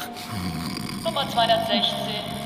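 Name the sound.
person snoring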